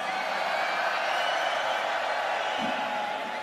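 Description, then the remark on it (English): The left side of a crowd at a live show cheers and yells when asked to make some noise, a dense, continuous roar that holds at a steady, fairly loud level for the whole few seconds, with no single voice standing out. “Left side, make some noise.”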